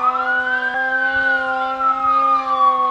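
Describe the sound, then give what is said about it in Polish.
A loud, steady camp alarm siren sounds alone for a daytime camp alarm, its rising and slowly falling wail holding for the full three seconds over a constant low tone. “Uwaga, obóz, ogłaszam alarm obozu.”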